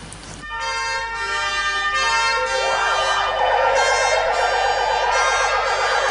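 Several emergency vehicle sirens wail together in an evening tribute to firefighters who died, loud and sustained, their rising and falling tones overlapping in a continuous chorus with no voices present.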